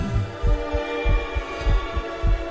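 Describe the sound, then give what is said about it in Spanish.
A steady heartbeat thumps in low, muffled lub-dub pairs about once every half second, prominent over a faint sustained hum, with no talking. “El corazón muere cuando sus latidos no tienen sentido.”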